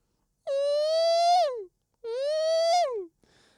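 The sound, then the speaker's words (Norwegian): A voice imitates a drill driving a screw with two long, steady whining hums, each rising slightly in pitch before dropping off at the end, followed by a faint brief noise. “En drill som skruvar in en skruve.”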